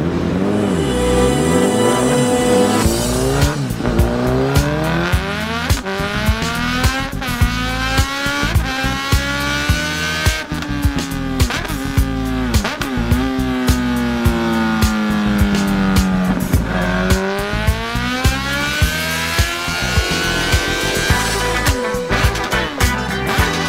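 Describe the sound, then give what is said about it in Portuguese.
A new Honda CB1000R Neo Sports Café naked sport motorcycle with a 142-horsepower engine revs hard and accelerates, its pitch climbing and dropping through several loud sweeps over a steady growl, with no voices. “a super máquina que eu escolhi para participar do Máquinas da Pan é a nossa nova Honda CB1000R Neo Sports Café”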